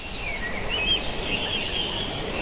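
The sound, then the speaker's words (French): A steady, high-pitched chorus of birdsong, with thin whistling chirps layered over a continuous shimmering trill and a low rumble underneath, with no voices. “Et oui, le chant des oiseaux, ce doux bruit par lequel on adore tous être réveillés, eh bien, figurez-vous qu'il pourrait disparaître.”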